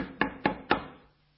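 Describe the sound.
Three firm knocks on a wooden door, evenly spaced about a quarter second apart, fairly loud, with a short reverberant decay and no voices; a church elder knocking on an audience member's door on a home visit.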